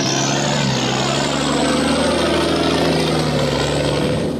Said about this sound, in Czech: Mirno jutarnje prepodne na momente prekine prolaz bučnijeg vojnog kamiona ili vozila koje izazivaju znatiželjne poglede starijih meštana iz obližnje kafanice.